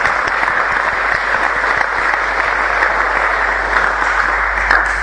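An audience claps for the event's organizing committee, a dense, continuous wash of many hands at a fairly loud, even level for the whole stretch, with no voices standing out.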